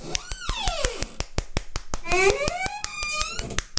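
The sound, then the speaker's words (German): A creaking recliner armchair gives off long, squealing creaks that slide down and then rise in pitch, over a steady run of quick, sharp clicks throughout. “Also ich dachte, das wäre ein quiekendes Schwein, aber tatsächlich ist es ein knarzender Relax-Sessel.”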